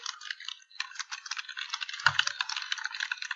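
Rapid, steady typing on a computer keyboard, a dense stream of light clicks and clatter that runs the whole time, moderately quiet, with one soft low thump partway through.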